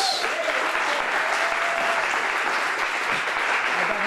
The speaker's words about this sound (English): Coming to our stage right now is a very first timer. So will you give a huge Petaluma round of applause